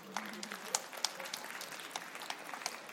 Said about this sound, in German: Applaus.